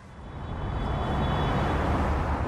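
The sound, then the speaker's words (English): A steady, swelling roar of cars speeding on a freeway ringing Johannesburg, many going much faster than the 100 km/h speed limit: a broad low rumble with engine drone and a faint high whine, growing slightly louder and holding without pause. “Cars speed on a freeway ringing Johannesburg.”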